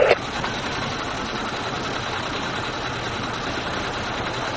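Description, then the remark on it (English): An engine starts up at a dockyard wharf with a brief louder burst, then runs at a steady, continuous drone, holding an even level throughout with a faint mechanical hum and no voices. “The that engine has started up, super.”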